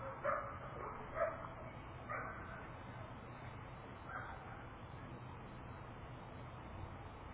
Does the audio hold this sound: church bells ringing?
no